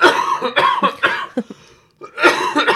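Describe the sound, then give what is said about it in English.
A fit of harsh, loud coughing: several rapid bursts in a row, a couple of smaller hacks, a brief pause, then another strong coughing burst. “Sorry. Bless you.”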